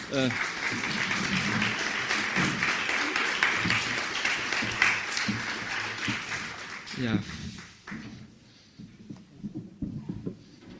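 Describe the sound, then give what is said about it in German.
An audience breaks into dense, steady applause for panel guests as they take their places to be introduced. It holds for about seven seconds before quickly dying away, with a few scattered claps and a voice speaking as it fades. “Vielleicht mit einem kleinen Applaus, das würde”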